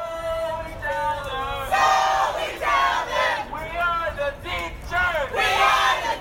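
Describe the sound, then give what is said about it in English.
A large crowd of marching protesters, teachers joined by high school students and families, chants together in loud, rhythmic bursts, many voices rising and falling in unison over a steady background roar, continuous throughout, after gathering at Chase Field to walk almost 2 miles through downtown. “The mood was controlled as the crowd gathered at Chase Field before walking almost 2 miles through downtown.”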